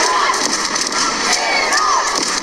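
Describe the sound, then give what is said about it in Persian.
A large crowd of Iranian women shouts, cheers and chants "Iran, Iran" for Iran's national volleyball team during a match against the Czech national team in a small stadium. It is a dense, continuous roar of high-pitched voices with rising whoops, loud and sustained throughout. “اما در این استادیوم کوچک تعداد زیادی زنان ایرانی هم حضور پیدا کردن و در حال فریاد زدن و تشویق تیم ملی ایران هستن. صدای اونها رو با هم بشنویم.”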